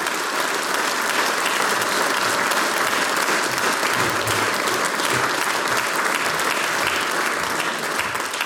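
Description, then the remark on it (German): Sustained applause from a large audience as a performer leaves the stage at a folk music event in Böllerberg, Styria; a dense, steady wash of clapping that stays loud and even throughout, with no talking over it. “Mit einem großen Applaus begleiten wir dich von der Bühne.”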